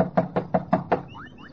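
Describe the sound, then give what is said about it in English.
Five firm knocks on the wooden door of Mrs. Chisholm's home in a steady, even rhythm, fairly loud, followed by a couple of faint rising chirps in the background. “Bang on the door again, Johnny, will you?”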